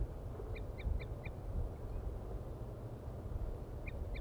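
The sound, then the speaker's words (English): Wild birds in the top of a deciduous tree about 50 to 60 meters off give a quick run of four short, high-pitched calls, fall silent for a few seconds, then call twice more, all over a steady low rumble of wind. “The birds are still up in the trees, tooping.”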